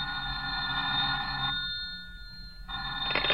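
A telephone rings with a bright, buzzy electric bell tone in two bursts separated by a short pause, the second starting just before the end. No one speaks.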